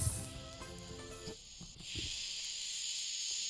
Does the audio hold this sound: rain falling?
no